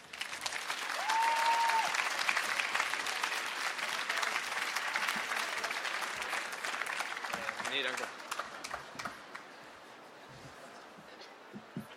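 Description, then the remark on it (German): An audience breaks into loud, sustained applause for a young author being introduced, dense clapping that holds steady for several seconds before gradually thinning out and fading, with a brief whistle near the start. “Er ist ein bisschen nervös, aber gebt ihm einen dicken Applaus, damit das schnell vergeht.”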